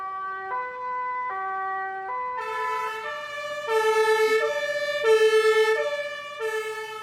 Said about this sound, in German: Wow, zwei verschiedene Töne waren das jetzt. Warum? Das eine nennt man umgangssprachlich Stadthorn und das andere das Landhorn. Das ist einmal ein Elektrohorn und einmal das Presslufthorn.